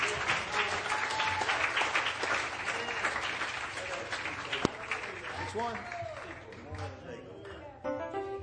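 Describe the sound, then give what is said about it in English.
An audience at a church service applauds steadily and loudly for several seconds as a hand of praise to God, dense clapping with voices calling out and cheering over the applause toward the end. “Give him a hand of praise tonight.”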